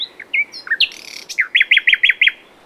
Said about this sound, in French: Le véritable nom a été parfois dévoilé par les membres. Il a donc été remplacé par des chants d'oiseaux.